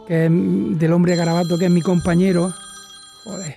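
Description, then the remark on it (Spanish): An old-fashioned telephone bell rings with a steady, bright tone under a man's speech, then carries on briefly by itself after he stops, before he speaks again. “Suena el teléfono. Pero ese es un teléfono de los antiguos, ¿no?”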